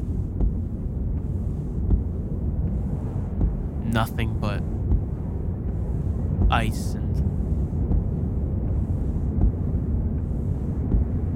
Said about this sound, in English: Getting closer, and the the snow's coming right back. Wind's howling.